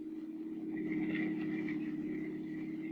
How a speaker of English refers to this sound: The story itself begins as a car moves along a snow-covered street. There are three men in the car.